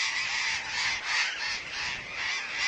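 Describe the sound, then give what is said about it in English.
A dense, continuous chorus of harsh, screeching burrowing parakeet calls from a large colony, many birds overlapping at once in a loud, steady din with slight surges. “Burrowing parakeets are big and slender, a foot and a half tall, with long tails, golden green wings, and yellow underparts marked with orange.”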